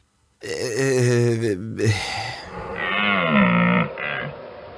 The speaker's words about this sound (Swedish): Det är en dovhjort som du kör på. Ja, dovhjort.